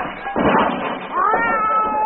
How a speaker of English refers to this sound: Lord, if there ain't our cat.